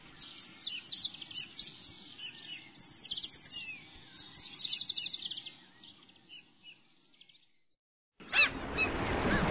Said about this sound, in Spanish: ¿Escucharon el cantar de las aves? ¡Qué maravilloso es escucharlas en un momento cuando queremos entrar en paz con nosotros mismos y cuando estamos reflexionando sobre toda nuestra vivencia! ¿Escucharon a las gaviotas y el mar?